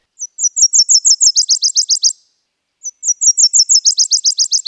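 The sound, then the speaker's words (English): A male Nashville warbler sings its two-part trill twice in a neighbor's yard, a run of high, evenly spaced notes shifting into a faster, lower second section, clear, with a short pause between songs. “First, an invisible male Nashville warbler sang its two-part trill in my neighbor's yard, officially kicking off warbler season for me.”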